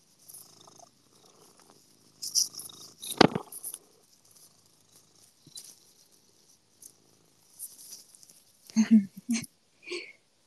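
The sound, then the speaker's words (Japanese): A cat named Mei-chan purrs softly and steadily on a bed, a low rumbling texture with scattered rustling and a few brief louder bursts near the end, including a short vocal-like sound. “みんなにぐるぐる音聞かせる？”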